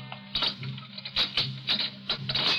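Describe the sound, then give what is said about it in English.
Footsteps in the corridor of a city jail outside a cell, early in the morning: a series of sharp, fairly quick steps at a steady, slightly uneven pace over a low continuous hum, with no voices. “Suddenly, he hears footsteps in the corridor and springs to his feet, every nerve alert.”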